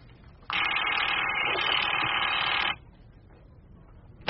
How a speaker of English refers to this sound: Oh, there's the switchboard.